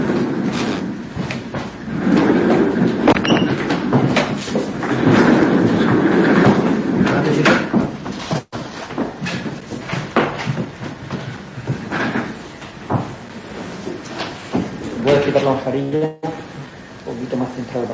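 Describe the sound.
A chair is dragged, shifted and swapped around, with scraping, rumbling movement and a few soft thuds, while muffled voices murmur in the background.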